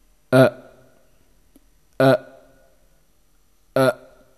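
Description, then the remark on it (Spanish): A voice imitates the guttural grunt of English pronunciation three times, each a short, loud, throaty burst from the chest, spaced evenly about every second and a half with silence between. “Inglés, el gruñido, por favor.”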